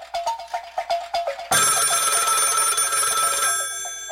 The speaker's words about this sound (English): phone rings.